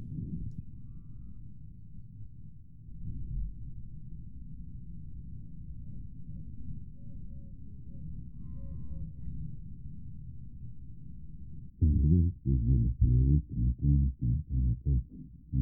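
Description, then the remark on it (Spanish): Birdsong recorded in Cancún, Quintana Roo, Mexico, altered to simulate how it would sound on Mars: heavily muffled, stripped of its high trills so only dull, low-pitched chirps blur into a steady murmur, ending with a series of louder, thudding honk-like calls. No one speaks. “Ahora, según lo que se ha descubierto de cómo se transmite el sonido en Marte, si esto hubiese sido no en Cancún, sino en Marte, sonaría así.”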